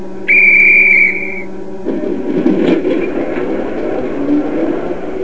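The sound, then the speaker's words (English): A loud, steady train whistle blows for about a second and a half, then cuts off as the low rumble and clatter of a train getting underway takes over. “The trains will start.”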